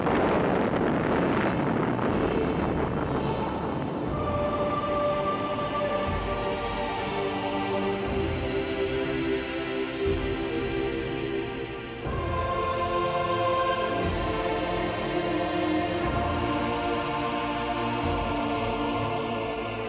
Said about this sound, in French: Ici la Défense nationale, voici en toute première mondiale, puisque c'est le document original que nous vous faisons entendre, le bruit de l'explosion de la première bombe atomique française.